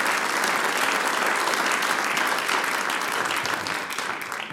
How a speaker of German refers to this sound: Applaus für den Reinhold und die Gruppe ….